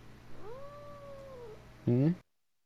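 An unhappy, very fat female cat, held in an arm hold like a teddy bear, lets out a long, drawn-out yowl, then a louder, harsher cry cut short, with only faint background noise.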